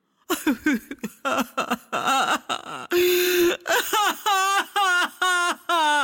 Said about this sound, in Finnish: Hyvä kuulija, nyt kuulet ensin vähän itkua.